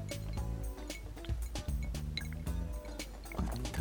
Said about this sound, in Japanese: お、 この焼酎は美味しいぞ。 氷の音が、